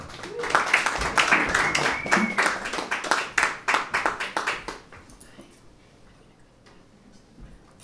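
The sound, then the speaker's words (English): A burst of audience applause for the next act being introduced, with dense, rapid clapping and some whooping, holding strong for several seconds before thinning out to a few scattered claps and then fading away. “big round of applause right now for our next act”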